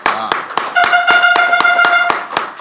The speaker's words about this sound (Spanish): Un aplauso para eso.